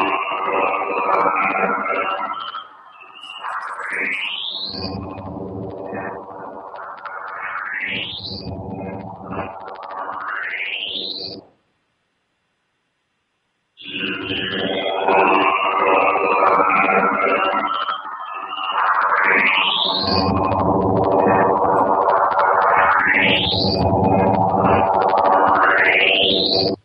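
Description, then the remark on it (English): A space radio signal pitched up twelve semitones in an audio editor: loud, warbling electronic tones with swooping upward whistles repeating every few seconds, broken by a brief silence midway, with no voices. “The same radio signal, now in pitch by 12 tones, cool edit, audio editor raised.”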